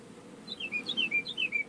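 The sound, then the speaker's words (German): A small bird chirps in a quick series of high, descending tweets, several short phrases repeating over a soft background hiss, not loud, heard through the open door of a van in a village in Franconia, Germany. “Ich muss mal kurz, wo der Vogel hier gerade rein zwitschert.”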